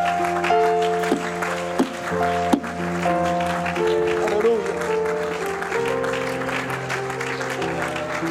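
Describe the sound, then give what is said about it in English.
An audience applauds the Lord in a dense, steady wash of clapping for several seconds, layered over sustained organ chords, with a few voices calling out. “Would you give the Lord that applause tonight?”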